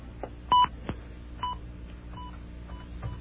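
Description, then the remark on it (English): A quick series of touch-tone telephone dialing beeps, several short tones in an uneven rhythm with one longer, louder tone near the start, as someone dials a collect call to their own answering machine, with no talking. “Okay, but what I will do is call my own answering machine, collect.”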